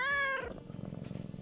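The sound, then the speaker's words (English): A single short, high cat meow rings out, then trails into a low, steady rumbling that continues to the end. “So with your meows, you're manipulating me.”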